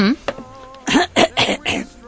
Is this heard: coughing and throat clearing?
yes